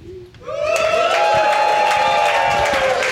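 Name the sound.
audience applauding and cheering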